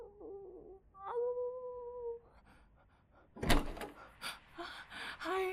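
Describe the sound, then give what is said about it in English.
A door is opened midway with a solid thunk and a rattling, scraping clatter that follows, after a couple of steady hooting tones at the start. No one speaks. “Owner, please open the door.”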